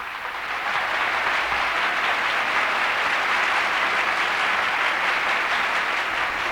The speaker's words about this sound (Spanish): Esta es la ovación que nuestros oyentes le dispensan al esfuerzo realizado por nuestros machos ibéricos, que agradecemos de su parte.